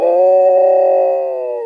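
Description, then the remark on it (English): An Alaskan Malamute mix dog lets out a single deep, guttural howl at yipping and howling coyotes, loud, held as one steady sustained note that fades slightly at the end. No one speaks. “He lets out this deep guttural howl.”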